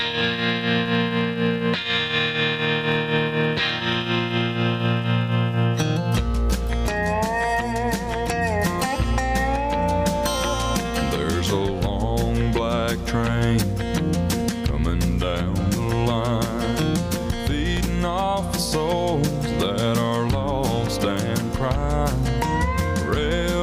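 A country song's intro played on radio station 105.5 WIRI: a few seconds of held, ringing chords before a fuller band kicks in with twangy, effected guitar lines over a steady rhythm, loud throughout with no voices.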